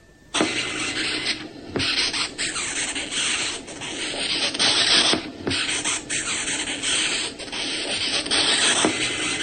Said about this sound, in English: This is a very high-pitched, squeaky noise. And how is it produced? It is produced by the chin of the beetle rubbed against a ridge on the chest. But That chin has a lot of fine ridges. This is known as stridulation